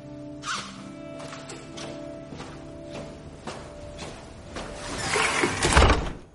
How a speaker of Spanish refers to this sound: Neneta cierra la puerta.